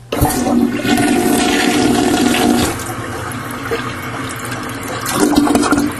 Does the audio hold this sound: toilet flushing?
yes